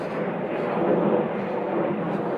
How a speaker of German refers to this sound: Startende Flugzeuge sind scheiße. Vor allem, weil ich jetzt wieder die Schulkopfhörer im Gehörgang habe und die empfindlicher sind.